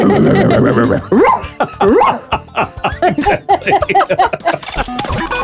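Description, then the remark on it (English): A person imitates a barking dog with a quick run of short, yelping woofs, loud, the barks tumbling into a giggly, laughing rhythm with no other voices. “The only thing I can sound like is a dog. I'd have to just bark my way through the airport.”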